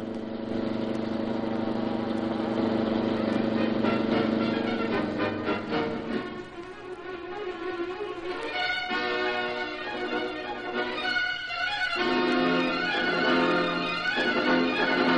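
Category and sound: vehicle, car engine accelerating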